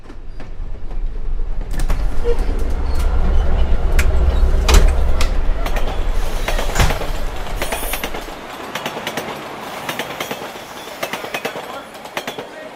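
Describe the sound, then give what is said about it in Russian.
A metro train rumbles loudly into Proletarskaya metro station, braking with sharp metallic squeals and clicks, then the low roar drops away as the sliding doors clatter open and quieter clunks follow. “Мы с вами доехали до станции метро Пролетарская.”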